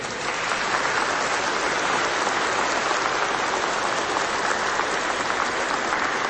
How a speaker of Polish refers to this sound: przeżywamy w przepięknej świątyni pod wezwaniem podwyższenia Krzyża Świętego w Kielcach, oczywiście w diecezji kieleckiej, u gościnnych księży salezjanów, którym już teraz za zaproszenie, życzliwość i otwarte serce gorącymi oklaskami dziękujemy.